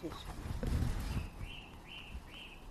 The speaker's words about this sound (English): Blue tip on the feeder. That's a finch, was it? Chit. Oh, no, a tit.